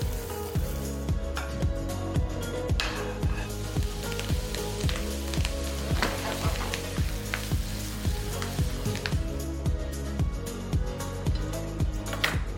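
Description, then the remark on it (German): Potatoes sizzle steadily in a frying pan over medium heat, a continuous crackle and spatter lasting throughout, with what sounds like soft background music underneath and no one talking. “Das heißt, wir lassen die jetzt hier bei mittlerer Temperatur so richtig schön vor sich hin brutzeln.”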